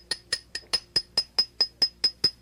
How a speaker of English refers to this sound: Here's a 20-penny spike, 50-cent hammer, and a no-sense head. I'm going to drive a spike in my head. Watch.